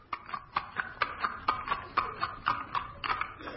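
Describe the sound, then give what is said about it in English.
Horse hooves clip-clop in a steady, even rhythm, a dozen or so sharp hollow knocks over a few seconds, clear with no voices over them, as a horse is brought to a blacksmith to be shod. “Ho there, blacksmith! Would you shoe this horse?”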